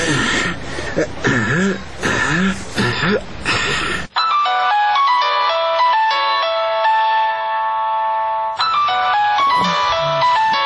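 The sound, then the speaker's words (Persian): A man calls his wife's phone from outside the door because she does not hear the doorbell: a phone ringtone plays a loud, steady electronic melody for several seconds after someone talks briefly; the voice comes back as the ringing stops. “تا که مجبور شدم در تلفن برات زنگ بزنم.”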